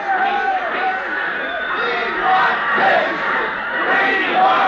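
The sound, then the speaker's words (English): A large baseball crowd yells and cheers joyously in a dense, continuous roar of overlapping voices, loud and steady throughout, swelling slightly in the second half. “Then from that gladdened multitude went up a joyous yell.”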